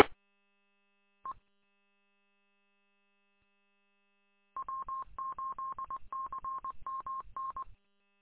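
A single short beep, a pause, then a rapid run of telephone keypad tones pressed one after another in quick succession, clear, with no voices.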